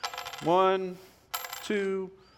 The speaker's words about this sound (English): So, Caiaphas, he pulls out some coins. He starts to count the coins.